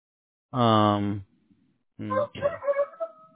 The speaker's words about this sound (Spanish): Oye, escucho al gallo ahí, ¿verdad? Sí, pues.